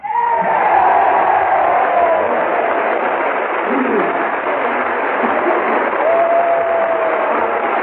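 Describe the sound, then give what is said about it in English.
The whole U.S. House of Representatives and its gallery, Democrats and Republicans alike, rise and applaud as General of the Army Douglas MacArthur comes down the aisle toward the Speaker's rostrum: a steady, unbroken roar with scattered cheers and a couple of rising shouts, the sound muffled and thin like an old broadcast. “The whole House and the gallery rises and applauds as General MacArthur, followed by a delegation from both houses of Congress, comes down the aisle toward the Speaker's rostrum.”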